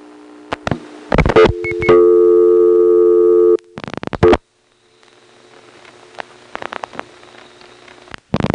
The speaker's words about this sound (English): Let's call into one of the ESS codes and let it time out. It goes off hook when it puts on the reorder. That was a common number one ESS thing to do, charge for things that are supposed to be free.